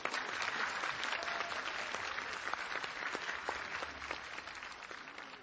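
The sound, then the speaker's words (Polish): Sustained applause from a large audience welcoming Father Dariusz Paszyński, vice-provincial of the Warsaw province of the Redemptorists: a dense steady wash of many hands clapping at once, fairly loud and continuous throughout with no talking over it. “Witamy ojca Dariusza wśród nas także gorącymi oklaskami.”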